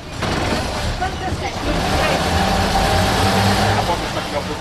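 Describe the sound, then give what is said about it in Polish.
A steady, rumbling engine of a vintage bus drones throughout during a ride in Gorzów, heard from inside the vehicle, loud and continuous with low mechanical hum, while people talk over it. “Przypomniały mi się czasy, kiedy jeździły po Gorzowie takie autobusy, ale już dawno temu było, bardzo.”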